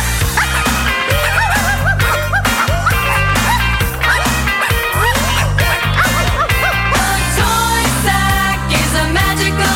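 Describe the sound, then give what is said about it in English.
Puppies in a moving sack bark and yip in quick, rhythmic bursts over a steady bass backing in a Christmas novelty song, loud and continuous, with no one talking. “There's puppies in the sack.”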